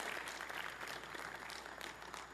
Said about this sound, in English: Give our media team a big hand clap right now. They're so awesome.